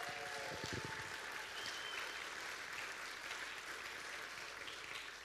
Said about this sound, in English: Or the whole family, stand up. Give them a hand clap.